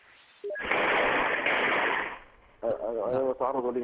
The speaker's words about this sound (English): I'm being attacked right now. This is gunfire inside my house. They're inside my house.